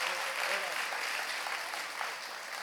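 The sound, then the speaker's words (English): A church audience claps together in a steady, dense wash of applause that holds at an even level throughout, with a few faint voices mixed into the noise, giving God a clap. “Hey, let's give God a great clap. Come on, give Jesus a hand.”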